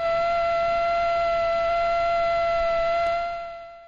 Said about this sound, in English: That is a male mosquito buzzing its wings at something like 600 hertz, 600 times a second.